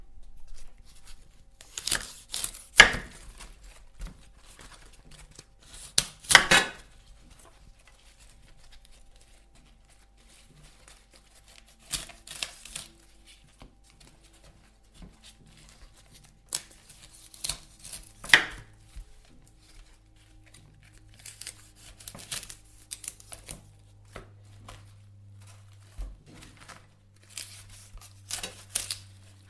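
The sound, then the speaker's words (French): Crisp snapping and tearing as the largest outer leaves are pulled off a whole cauliflower before washing it, leaving the smaller leaves, in irregular bursts separated by quiet pauses; a low steady hum joins near the end. No talking. “Avant de les laver, on prend le chou-fleur entier et on enlève les plus grandes feuilles qui sont autour.”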